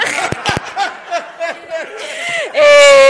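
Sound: person crying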